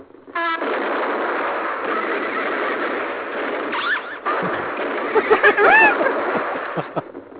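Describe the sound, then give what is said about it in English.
A horse that has just been hit whinnies in short, shrill bursts near the end, rising over a steady wash of loud, rumbling background noise. No one speaks. “You know the horse got hit, man.”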